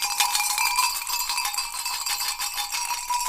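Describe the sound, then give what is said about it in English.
Small hand bells, rung by a storyteller to gather people's attention, jingle and clang continuously in a bright, metallic cluster, ringing steadily and fairly loud for a few seconds with no voices. “Also ring my bells.”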